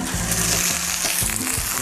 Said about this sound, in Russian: Куры жарю побольше, если что, так съедим.